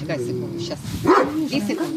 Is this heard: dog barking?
yes